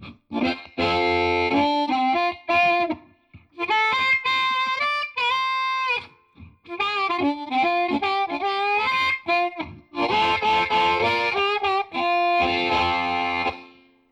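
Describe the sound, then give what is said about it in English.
An electric guitar plays a bluesy lead phrase through a warm, slightly overdriven Bassman amp model with a '63 spring reverb, giving a splashy reverb tail, notes bending and sustaining in bursts with short pauses between them. “With one turn of this dial, I can switch from this sound to a Bassman with a 63 spring reverb.”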